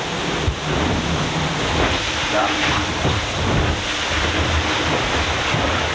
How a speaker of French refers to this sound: Alors là, moi je connais bien le bateau, donc je peux identifier chacun des bruits. Il y a d'abord le bruit du bateau qui accélère dans la vague.